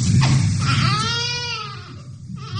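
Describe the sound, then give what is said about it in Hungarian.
A newborn baby cries loudly, one long quavering wail that rises and falls over a few seconds, with a low background rumble underneath. “A megszületés után az élet első jelei ezek. Az első hangok a csecsemőtől mindenütt a világon egyetemes nyelven. De hogy hol sír fel az újszülött, már nem mindegy.”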